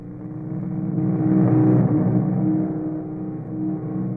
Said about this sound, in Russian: Целый отряд. В мотоциклах.